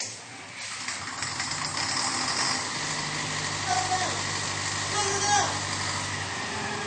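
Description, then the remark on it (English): A generator engine turns over and settles into a steady, rumbling idle, its low droning hum holding at a constant, fairly loud level; its exhaust is plugged. “Guess you were right to shut her down. Try it now,”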